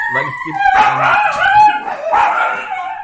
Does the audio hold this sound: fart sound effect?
no